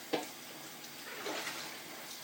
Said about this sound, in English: If I don't let the water get too full, I can wash it in the sink and then I can rinse it under the tap. Only thing is the water's boiling, so I've got to be a bit careful.